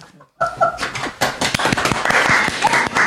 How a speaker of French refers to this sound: C'est la première fois que je suis applaudi pour une chronique.